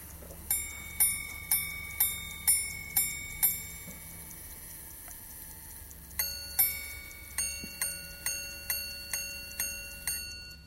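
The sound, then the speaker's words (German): A grand sonnerie wristwatch, set off by pushing a button, chiming the time 7:22: seven bright, evenly spaced strikes for the hours, a short pause, a two-note ding-dong for the quarter hour, then seven more quick high strikes for the minutes, clear with no talking. “Grand Sonnerie heißt die Uhr, weil sie auf Knopfdruck die Uhrzeit zum Erklingen bringt.”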